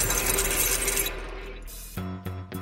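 A bright, metallic jingling of keys rattles for about a second, then fades out, followed by a low, buzzing harmonic drone that pulses in short bursts.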